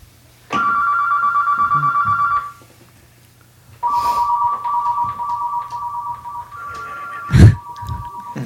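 A telephone rings with an incoming call on a radio show's phone system, a call meant for the hotline line: two bursts of a steady, mid-pitched warbling electronic tone, the second much longer, over a low hum, with a brief thump near the end.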